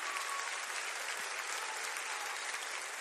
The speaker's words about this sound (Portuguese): Glória a Deus. Dá uma salva de palmas para Jesus.